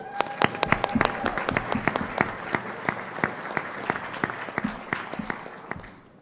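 A crowd at an Active Blind scholarship event breaks into steady applause as the scholarship chair is introduced, a dense patter of many hands clapping at a lively pace with sharp individual claps standing out, then gradually thinning and fading out over about six seconds.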